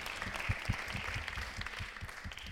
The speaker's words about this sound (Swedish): Innan vi sätter igång vill jag bara säga att det är 100 år sedan kvinnor fick rösträtt. Så jag tycker vi ska ge en stor applåd till det.